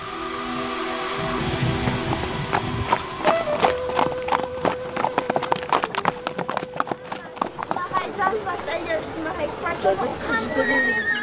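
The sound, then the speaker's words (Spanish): A horse whinnies at the start, then hooves clip-clop in a steady rhythm on a hard surface for several seconds. Voices murmur in the background. “Dame tu caballo.”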